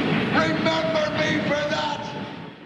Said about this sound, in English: And this is all while he's getting further away on a train. It's kind of hilarious because his voice stays very, you can hear everything he's saying, and he's not going far away. 40 seconds, he's just leaving on a train, and it's so far away